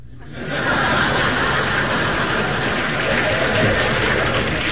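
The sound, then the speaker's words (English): A crowd at a TV taping breaks into applause that swells within the first half second and holds steady and loud, a dense wash of clapping mixed with laughter and scattered chuckles throughout. “It's a good crowd, yeah.”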